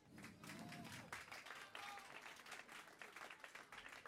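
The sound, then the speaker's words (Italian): An audience applauds steadily for about four seconds, a dense wash of many hands clapping, with a few faint voices murmuring underneath. “per cui gli chiedo un primo applauso.”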